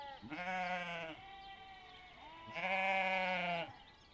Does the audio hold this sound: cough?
no